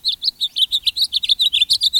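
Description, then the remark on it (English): A bird sings a rapid, steady series of high chirping notes, about seven per second, bright, with no other sounds or voices around it. It is a bird greeting the sunrise with song in winter, in February. “But even in winter, some birds greet the sunrise with song.”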